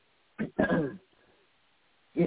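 A few short, rough coughs or throat-clearing bursts, one quick one followed by a longer hacking cough, then a pause and another brief cough, close and moderately loud.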